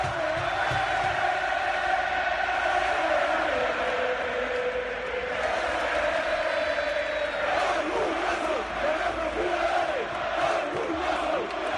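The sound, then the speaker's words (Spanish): A big stadium crowd at the Metropolitano chants and sings in unison after a match, loud and unbroken throughout, with cheering and clapping woven into the dense roar as the footballers applaud the fans. “Son los futbolistas, los que oyen de fondo son los futbolistas. Aplaudiendo a la afición, insistimos, en una noche absolutamente espectacular.”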